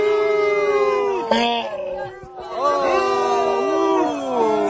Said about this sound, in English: Booing.